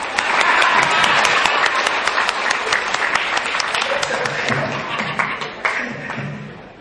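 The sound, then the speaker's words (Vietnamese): A crowd bursts into sustained applause, dense overlapping claps filling the whole stretch and thinning slightly toward the end, with a few sharper individual claps standing out. “Rồi cho xin quốc gia một tràng pháo tay.”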